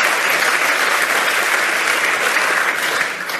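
Steady, dense applause from an audience, a continuous wash of many hands clapping at an even, loud level for a few seconds before tapering slightly at the end.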